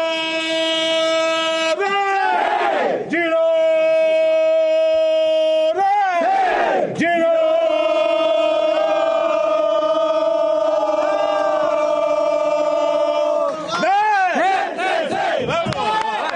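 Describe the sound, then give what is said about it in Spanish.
The Girona football team's locker-room battle cry as the players finish getting ready, led by one of the team's kit men: many voices bellow long, sustained shouts in unison, broken by a few rising and falling yells, loud and continuous for the whole stretch. “Tiene el grito de guerra en el vestuario.”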